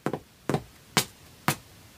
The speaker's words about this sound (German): Und es wird alles nachgemacht. Treppe runter.